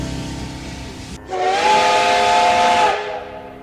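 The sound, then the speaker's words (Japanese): Steady steam hiss, then a loud, sustained steam locomotive whistle blowing for about a second and a half over the rushing steam before cutting off and the hiss trailing away. No voices. “はいはい、 SL って蒸気機関車がね、ああ目の前の画面をシャーって横切った。”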